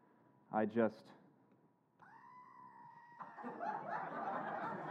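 A squeezed toy desk goat lets out a loud, short bleat, a quick wavering double pulse, followed by a steady tone and then a swell of audience laughter.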